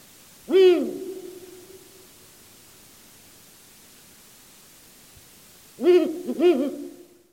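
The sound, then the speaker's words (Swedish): A Ural owl hoots once, falls silent for several seconds, then answers with a quick pair of deep hoots, a distinct rhythm with a pause in the middle, clear over a steady background hiss. “det där var en liten bit, men hela fågelsånglektionen om ugglor finns i appen Sveriges Radio”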